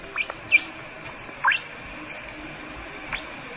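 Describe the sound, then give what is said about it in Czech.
A rat pup squeaks to communicate with its mother in several brief, thin, high-pitched chirps, scattered irregularly over a faint hiss, with no voices. “Tohle je potkaní mládě, píská, aby se domluvilo s matkou”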